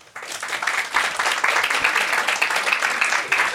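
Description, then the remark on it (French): An audience applauds in a dense, steady wash of many hands clapping in answer to a question about who in the hall makes scary attractions, rising quickly and holding at a fairly loud, even level for about three seconds. “Est-ce que, par applaudissement, qui fait des attractions dans la salle, genre qui font peur?”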